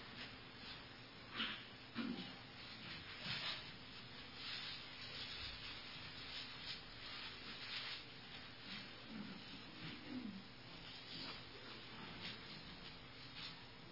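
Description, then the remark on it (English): Soft, steady rustling and rubbing of paper pages being turned and shuffled as people look up Hebrews 13:5, a continuous dry scratchy texture with small brushing bursts, quiet throughout and with no voices. “I heard the paper stop.”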